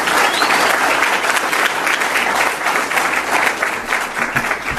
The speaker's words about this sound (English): Let's give Treasurer Ferrix a big round of applause.